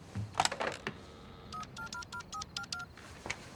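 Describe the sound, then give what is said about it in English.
A quick series of about eight telephone keypad tones beeps out as a number is dialed, each short dual-pitched tone evenly spaced, preceded by a few clattering handling sounds. “He goes over to the phone.”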